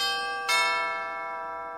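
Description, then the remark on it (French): A bell, set ringing by pressing a brass push button, is struck once with a bright, full metallic clang, its rich overtones ringing on and slowly fading, with a faint hum of earlier ringing beneath. No voices. “16 ans, reprit Domergue en poussant le bouton de cuivre qui mit en mouvement une cloche au timbre sonore et plein.”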